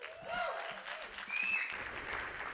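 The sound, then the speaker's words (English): A church audience claps steadily in a dense, sustained wash of applause, with a few high cheers or whoops rising above it, for a woman training to become a pastor who is about to preach. “Would you give her a huge round of applause”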